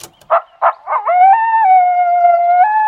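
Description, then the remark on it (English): A coyote, recorded at night from a tent, lets out three quick, sharp yips, then breaks into one long, wavering howl that steps up and down in pitch. It's loud and clear against silence, with no voices. “Coyotes are sometimes called song dogs because they communicate with vocalizations that travel over a long distance. Think howling.”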